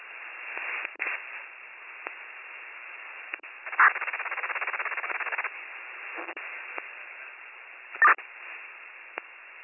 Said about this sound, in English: Last transmission go again, that was all static.